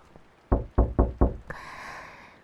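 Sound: knocking on a door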